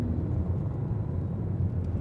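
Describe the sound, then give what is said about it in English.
A steady, heavy low rumble of road traffic, continuous and fairly loud, like vehicles streaming past with no distinct individual cars standing out. “Guy was trying to turn left across heavy traffic,”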